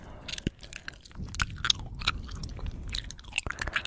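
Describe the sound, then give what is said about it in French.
Chewing gum sounds: moist smacks and sticky clicks repeating in an uneven rhythm, loud, with no voices. “Les chewing-gums, c'est vraiment quelque chose qui m'énerve.”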